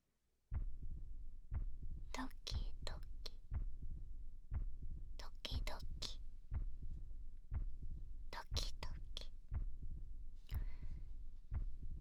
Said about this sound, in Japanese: 心臓の音聞こえてるかな。姫のために私が生きてるって証拠の音だよ。